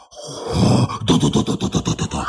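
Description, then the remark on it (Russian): A voice makes an exaggerated imitation of a typical sneaky spy's snoring: a long rough grunting inhale, then a rapid series of rhythmic, rattling pulses, loud, with no speech. “А теперь ты услышишь Типичный шпионский храп.”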